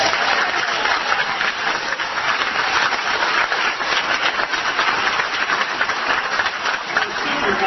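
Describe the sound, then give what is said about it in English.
A town hall meeting crowd applauds the concept of lynching in a dense, steady wash of clapping that holds at an even loudness for the whole stretch, with faint voices mixed into the noise. “They applaud the concept of lynching.”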